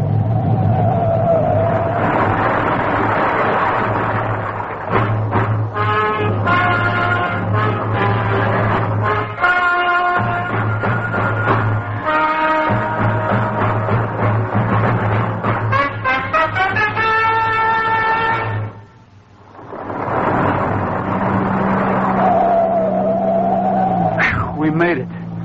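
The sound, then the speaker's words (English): A car engine roars loudly and revs repeatedly, its pitch climbing in surges as the car accelerates hard and races away, trying to get through before an avalanche, with a brief lull before the engine noise swells again. “Step on it, Pat. Maybe we can get through.”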